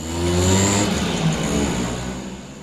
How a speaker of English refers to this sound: rides off on his S50 Simpson Classic East German moped.